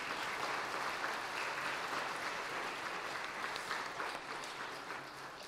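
An audience applauds steadily, a dense wash of many hands clapping at once that holds at an even level throughout with no voices breaking through.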